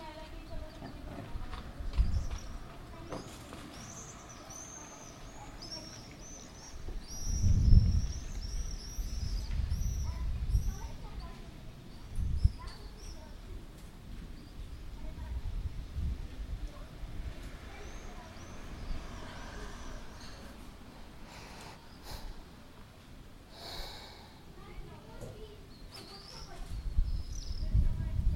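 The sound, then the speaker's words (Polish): Wind gusts buffet the microphone in irregular low, rumbling bursts, strongest near the start and end, while birds chirp faintly and children's voices drift faintly in the background. “I znowu wie, zabije ten wiatr.”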